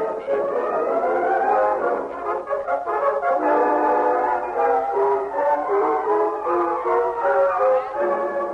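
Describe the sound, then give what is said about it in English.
A steam express train's whistle blows from the west at sunrise as the train approaches the station at Clarksville, one long, loud, sustained chord-like wail that holds steady for several seconds, with no voices present. “Just as blood-red sun lifted itself above the horizon in the east, a whistle sounded from the west, and 5 minutes later the express steamed into the station at Clarksville.”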